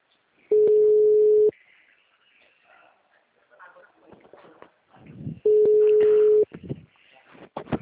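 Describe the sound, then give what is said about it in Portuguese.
A telephone line after a call has dropped: two loud, steady low-pitched tones, each about a second long and several seconds apart, with faint murmured talk and clatter between them. “Acabamos de nos falar por telefone, acho que a ligação do senhor caiu.”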